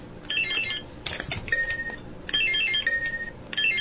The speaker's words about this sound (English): And I think everybody got a real lesson on how to use the buzzer. We're going to do a buzzer check again before we move on to our second round.